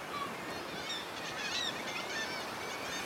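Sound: birds calling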